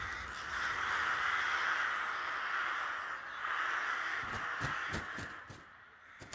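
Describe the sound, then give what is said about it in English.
A dense chorus of thousands of crows cawing at once at their night roost at Mail, outside Belcoo, heard from a lay-by, a continuous raucous wash, with a few sharper caws and clicks standing out toward the end. “And when the wind is favouring you, you can hear the crows very plain from the island.”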